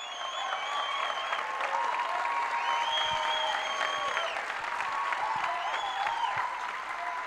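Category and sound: crowd, audience applause and clapping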